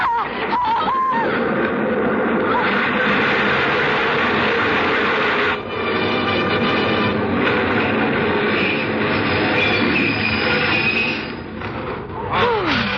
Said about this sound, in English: Oh, the train was in and out.